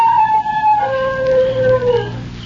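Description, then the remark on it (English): A dog lets out a long, sustained howl that starts high and slides gradually downward in pitch, loud and mournful, with a low engine-like drone running underneath. “He howled.”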